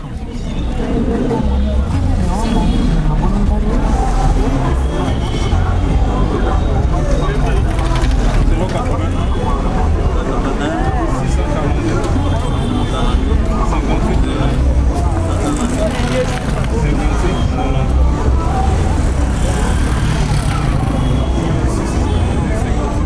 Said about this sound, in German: Ja, so klingt's, wenn man eine Fläche von vielleicht sechsmal so groß wie Berlin entfliehen will und alles Stadt ist und Verkehr. Das ist der Sound von Kinshasa.